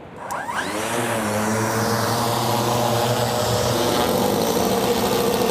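The propeller engines of a custom-built, AI-powered fixed-wing drone with a 5 metre wingspan spin up and roar steadily for takeoff on a trial flight. Their whining harmonics rise in pitch as they rev, loud, with a constant buzzing drone throughout.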